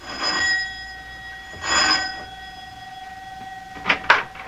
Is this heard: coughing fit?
no